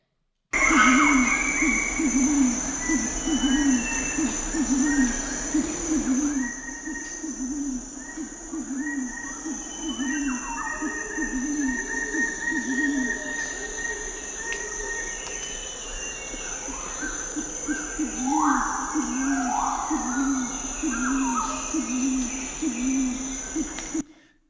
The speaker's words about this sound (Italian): Per noi sono canti di uccelli. Siamo nella foresta pluviale, siamo alle prime ore dell'alba. Presso i Kaluli, questa popolazione che è stata studiata da Steven Feld negli anni 70, siamo nella Papua Nuova Guinea